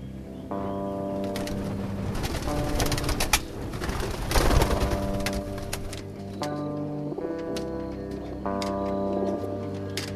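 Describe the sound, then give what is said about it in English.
Racing pigeons arriving home coo in low, droning tones, broken midway by a few seconds of rustling, flapping noise before the cooing resumes. No one speaks. “And tomorrow morning, when the sun comes up, just four of their birds will finally make it home.”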